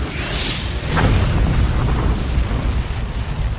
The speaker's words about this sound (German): Ein Asteroid dringt in die Erdatmosphäre ein. Er explodiert mit einer Wucht, die fast 1000 Hiroshima-Bomben entspricht. Die Druckwelle entwurzelt sämtliche Bäume im Umkreis von 30 Kilometern.